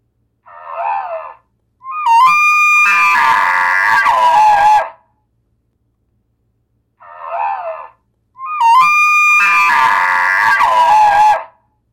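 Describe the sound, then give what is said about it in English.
A bull elk bugle sounds twice, each a short low note followed by a loud, shrill whistling squeal that slides downward, with a few seconds of silence between the calls. “But as you can see, it's different than any of the other bugles that you heard.”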